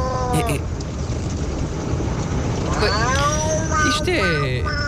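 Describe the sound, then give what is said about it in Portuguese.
A voice imitates an angry cat, giving two drawn-out, wavering yowls with rising and falling pitch, fairly loud over a steady low rumble of background noise. “É um gato. É um gato irritado.”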